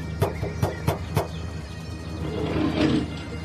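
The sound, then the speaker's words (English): A bus door slides open: four quick mechanical clunks, then a swelling pneumatic hiss as it opens, over a low engine rumble. No voices. “Open this door.”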